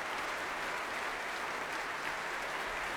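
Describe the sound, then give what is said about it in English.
Sustained applause from a large crowd at the Proms as John Sturgill returns to the stage applauding the BBC Philharmonic, a dense, steady wash of clapping that stays loud and even throughout, with no voices standing out above it. “John Sturgill's returning to the stage now, applauding the BBC Philharmonic and bringing them to their feet, but they refuse in his honour.”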